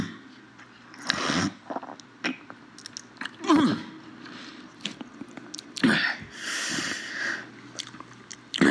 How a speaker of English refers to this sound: Just this week, the Biden campaign added this phlegmy snort from Bernie himself to their website.